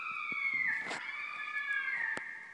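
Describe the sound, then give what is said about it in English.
A jaguar call: a single long, shrill, strained cry held steadily for a couple of seconds, dipping slightly in pitch midway, fairly loud, with no voices. “Yeah, that jaguar sound was a lot. They use it a lot in movies.”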